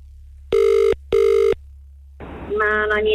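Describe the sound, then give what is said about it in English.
Two steady, buzzy ringback tones of an outgoing phone call, each lasting about half a second with a short gap, then the line picks up and a voice answers. “This person's listening. They know how to answer.”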